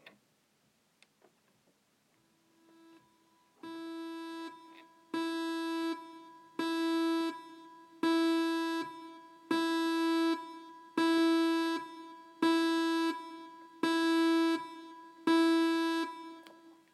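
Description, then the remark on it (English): A synth recreation, in the key of E, of the Aspley State School lockdown alarm: a faint low hum, then nine loud, buzzy mid-pitched tones repeating steadily about once a second, each with a slight echoing decay, and no talking. “This is, the Aspley State School lockdown alarm.”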